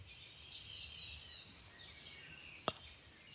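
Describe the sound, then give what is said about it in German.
Faint birds chirp outdoors in thin, high warbling calls over quiet background hiss, with one sharp click near the end and no voices. “Ja, und zwar höre ich das auch die Vögels, die bünd hier an Vögeln.”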